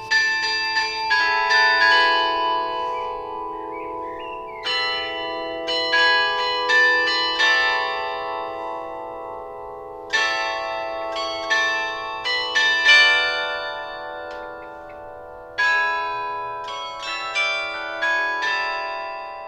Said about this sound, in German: Im Mutterhaus der Diakon läutet ein Glockenspiel im frohen Ton. Die Glocken riefen durch Tag und Nacht. Bald ist das Tageswerk vollbracht. Zu bestimmten Zeiten, wir haben es gesehen, läutet das Glockenspiel wunderschön.